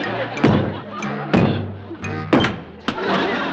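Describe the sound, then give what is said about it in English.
Someone bangs a metal cash box twice and kicks it once to open it and get change. Several loud thumps and clanks land at uneven intervals, each with a brief ringing decay, over a low background rumble. “Oh, I guess it must have been two bangs and a kick.”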